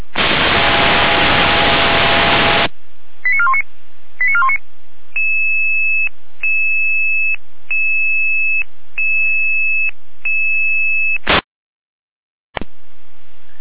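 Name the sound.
radio pager alerting tones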